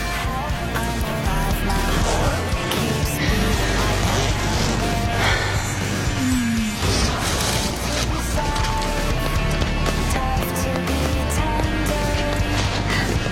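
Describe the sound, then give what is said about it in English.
Heavy rain pours down steadily, a dense, loud hiss of falling water that fills the whole stretch without letting up, with a few faint thuds and tones mixed underneath. “I knew it. I told you it was gonna rain.”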